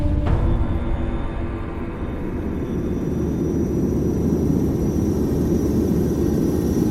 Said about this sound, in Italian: Intorno alle 15:11 del pomeriggio del 23 agosto 2023, un jet privato modello Embraer Legacy 600 sta solcando i cieli dell'Oblast di Tver, nella Russia occidentale, un territorio pianeggiante intorno alle sorgenti del Volga, denso di paludi, laghi